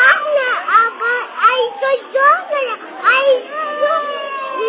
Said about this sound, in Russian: Ангел мой, подожди минутку, тут дети рыдающие.